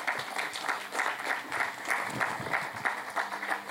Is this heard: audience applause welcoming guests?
yes